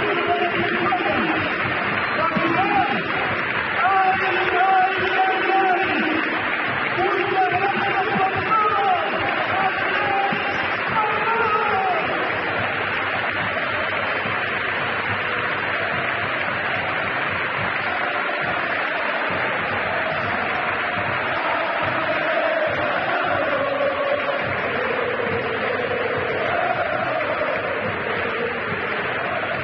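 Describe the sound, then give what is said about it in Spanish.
A huge crowd at the Benito Villamarín stadium chants in unison and applauds Andrés Guardado, a dense, steady roar of many voices with sustained sung tones that stays loud for the whole half minute. “Escuchen el estadio, el Benito Villamarín, cómo corea, cómo le aplaude a Andrés Guardado”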